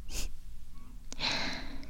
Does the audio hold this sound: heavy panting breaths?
yes